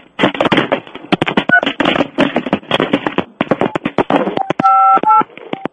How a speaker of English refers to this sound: What are you doing? I'm hanging up. Then hang the freaking phone up!